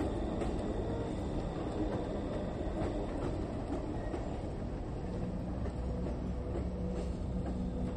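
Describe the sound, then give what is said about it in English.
A freight train rumbles steadily along the rails, loud, its heavy low roar joined by scattered metallic clicks and clanks of the wheels, with no voices. “They called him the railroad killer, and for more than a decade he crisscrossed the US by freight train, jumping off at random and bludgeoning his victims to death with whatever blunt object he could find.”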